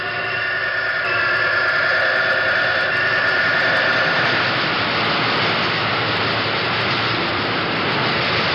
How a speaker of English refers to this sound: We walked around the machine and picked up the sounds of the auxiliary equipment. This is the oil circulating device that circulates oil around the bearing of the rotary condenser, which is inside the machine.